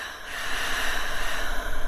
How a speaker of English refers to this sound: And breathing.